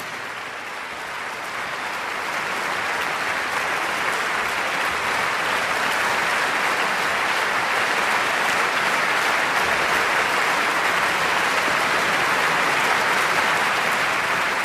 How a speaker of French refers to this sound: La question qui se pose est de savoir si le public du KKL de Lucerne, que nous entendons applaudir en direct sur Espace 2, s'ils parviendront à arracher un troisième bis aux 12 violoncellistes